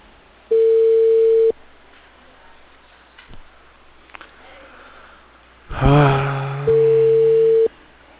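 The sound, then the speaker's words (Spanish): Two long, steady mobile phone tones sound about five seconds apart, loud and clear over a faint phone line, with a brief warbling burst just before the second tone. “Toque sensación de móvil.”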